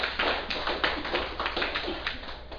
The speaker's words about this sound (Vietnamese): Xin đại chúng vỗ cho một tràng pháo tay.